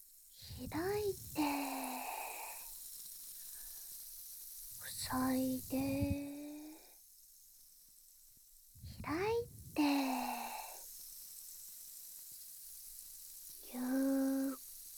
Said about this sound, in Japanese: じゃあ最後のあわたし。シュワシュワ追加。耳を塞いで。